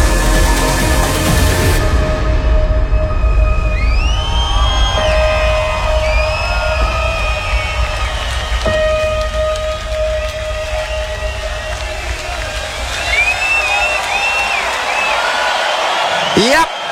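A huge festival crowd roars at the main stage of Tomorrowland 2024 in Boom, Belgium, a dense, continuous wall of cheering with shrill whistles and rising whoops cutting through, loud for the whole stretch.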